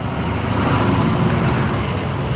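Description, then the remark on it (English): A big truck rumbles by on the left on a street at a corner, its heavy low engine noise loud and steady throughout, with no voices. “Big truck on the left.”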